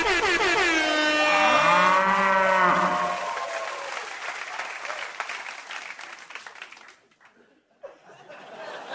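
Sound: cow mooing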